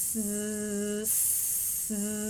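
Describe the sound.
A voice demonstrating voiced and voiceless consonants produces a steady, buzzing 'z' that vibrates in the throat, drops the voicing into a plain, airy hissing 's' without vibration for under a second, then slides back into the buzzing 'z'.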